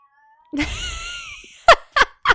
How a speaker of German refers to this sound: Und Katze. Ich weiß nicht, was er schon wieder hat.